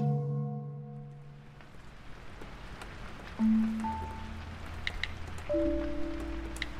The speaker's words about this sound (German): Seit 4 Tagen regnet es.